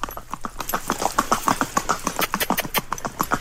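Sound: horse hooves clip-clopping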